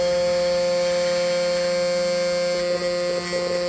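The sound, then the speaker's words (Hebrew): Computer beeps, made by a small piece of code that beeps each time the browser sends data to Google and Facebook, fire so rapidly that they blur into a steady, buzzy electronic drone with layered tones, a few brief extra blips flickering near the end. “שכתב קטע קוד מאוד מאוד קטן, קליק שכל פעם שהדפדפן שלו שולח מידע לגוגל, הוא מצפצף. ביפ. ביפ. ביפ.”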